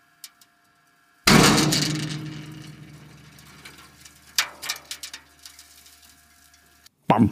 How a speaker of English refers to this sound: It's a shock pulse generator, and it's injecting a shockwave into the boiler, leading to a cleaning of the fouling on the superheaters and on the membrane walls inside that plant.